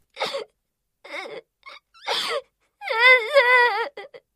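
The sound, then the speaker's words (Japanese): A boy cries and wails, starting with short sobbing gasps and then breaking into a long, wavering wail that trails off into a few broken sobs. “先生の胸で泣いて。”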